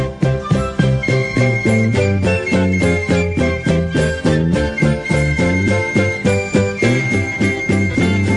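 A bright, upbeat show-tune style song plays with a bouncy, steady rhythm, strong bass notes and sparkling high accents, loud and continuous with no talking.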